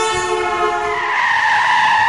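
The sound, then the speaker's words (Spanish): A car's tires screech loudly in one sustained, high-pitched squeal that shifts slightly in pitch over about two seconds as it nearly hits a child crossing the street without looking, with no voices. “Un niño cambió de acera sin mirar y casi le pilla un coche.”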